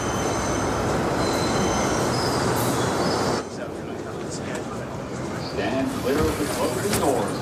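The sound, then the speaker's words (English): Loud, steady rumble and rattle inside a moving subway car, with metallic wheel squeal; the roar drops slightly midway and faint voices murmur beneath the noise. “From the scene, which I almost picked, the scene in which he's in a subway train.”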